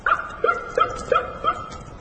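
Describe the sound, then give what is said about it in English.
A series of about five high-pitched, doglike yips repeats in quick, steady succession, each short call trailing off into a faint echo, with no voices present. “Out of nowhere came this mysterious yip-yip, like a fox terrier dog, a high-pitched yip-yip, and almost immediately an echo, like that.”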